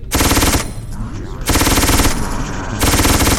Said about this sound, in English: Machine gun. Always duck. Ultra machine gun. Is a machine gun. No ducking.